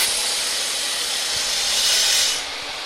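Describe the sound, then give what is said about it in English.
A woodcutting machine, used by students to sculpt a prototype ballista, starts up and runs with a loud, steady, hissing roar, swelling slightly near the end before easing back down a notch. No voices are heard. “Here, Rosecrans fires up the woodcutter they're using to sculpt the ballista.”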